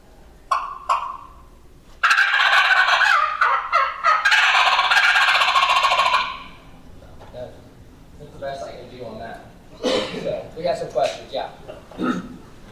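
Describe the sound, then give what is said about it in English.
A person imitates a turkey's gobble using a hunter's call: a loud, rapid, warbling burst lasting about four seconds, followed by softer chattering and clucking sounds. A few short clicks come first. “So I do it with my gobble, because that's what keeps me out of like Grand Nationals.”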